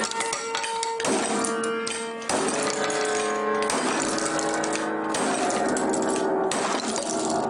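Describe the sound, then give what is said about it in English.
A giant wrench repeatedly smashes into a little upright piano at a mother's house, about four loud blows, each setting off a clanging jangle of ringing strings and rattling wood that hangs between strikes. “He videotaped himself holding up a giant wrench in front of a little upright piano.”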